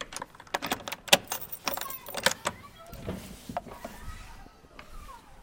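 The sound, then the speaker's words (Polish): An original old metal key jangles and scrapes in the lock of the original door of a church in Dylewo, with a series of sharp clicks and rattles as it is unlocked, followed by quieter shuffling. “Klucz oryginalny, drzwi również.”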